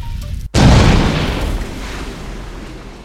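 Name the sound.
massive explosion boom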